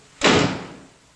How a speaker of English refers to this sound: Tom wipes his brow, then walks slowly across the room and closes the front door.